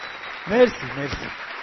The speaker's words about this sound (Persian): خودتون رو یه تشویق حسابی کن.